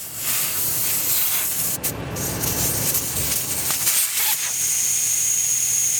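Steady, loud hiss of air being let out of an off-road vehicle's tyres to lower the pressure for driving through the desert, a broad airy spray that runs continuously for about six seconds, thinning slightly toward the end with a faint high whine.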